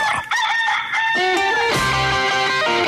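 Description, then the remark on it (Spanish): A rooster crows loudly, one long drawn-out call with strong harmonic tones that rises, holds, then trails off, with no talking over it; the rooster of Radioactiva. “Es una mierda. Pero no hay de otra. El gallo de Radioactiva.”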